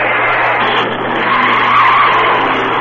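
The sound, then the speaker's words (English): A car accelerates hard at wide-open throttle, its engine roaring steadily while the tires squeal sharply, loud, with no voices. “Shell mileage experts will tell you that when you accelerate with a wide-open throttle, your car may be getting only 5 miles per gallon.”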